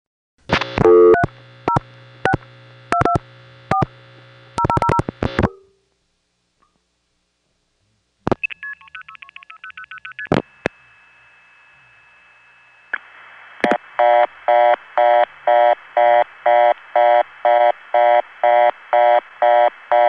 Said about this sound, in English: You'll notice before the reorder clicks on, you'll hear a start tone. And that is actually the start tone of White Plains echoing back to us all the way from Regina, Saskatchewan.